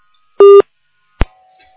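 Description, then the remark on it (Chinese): A loud telephone line tone sounds once, a short steady beep, followed by a sharp click and a faint, lingering hum on an open phone-in call line that must disconnect automatically before other callers can get through. No one speaks. “因为这个电话要等它自动断掉之后，人家才能打得进来，因为他打进来之后他自己不知道。”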